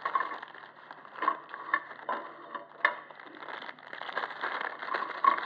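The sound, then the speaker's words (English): Crinkly plastic wrapping rustles and crackles steadily as a packet of red velvet crunch cream biscuits is worked open, with a few sharper snaps and tears breaking through the continuous scratchy noise. No voices. “You see, God, this packet, you've still got to work at it, haven't you, to get it out.”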